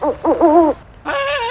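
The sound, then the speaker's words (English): An owl hoots in a quick series of tonal calls, a few short ones and then a longer drawn-out hoot, followed by a brief pause and another sustained hooting call. “Edwin, that's just an owl.”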